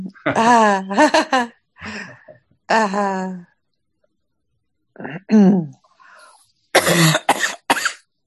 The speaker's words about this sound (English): Cough it out.